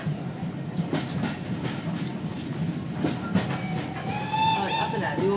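A train rumbles past with steady clattering over the tracks, and near the end a high, wavering whistle-like tone rises over the noise.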